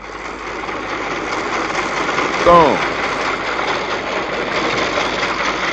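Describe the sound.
A lawnmower engine drones steadily and evenly as it is run over a record, its buzzing hum staying loud and constant while a man's voice briefly speaks a single word partway through.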